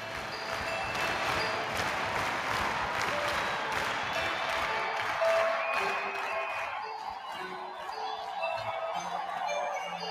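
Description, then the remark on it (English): A concert crowd in a played recording of an encore roars and cheers in a dense, steady wash of noise with scattered claps and shouts, easing slightly after a few seconds as faint tones of music emerge underneath. “You can kind of hear the crowd's energy realizing what's happening.”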